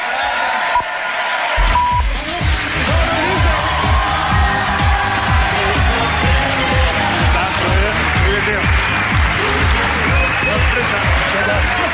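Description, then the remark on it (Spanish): Loud, sustained crowd applause and cheering as Grison is welcomed in, filling the whole stretch, joined after a couple of seconds by a steady, rhythmic low thumping beat underneath. “Pues bueno, Grison, un fuerte aplauso para Grison, por favor, que entre Grison.”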